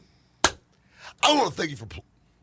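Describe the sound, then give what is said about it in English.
A single sharp, loud hand clap cracks out on its own, followed a moment later by a short burst of vocal sound sweeping up and down in pitch. “Clap again.”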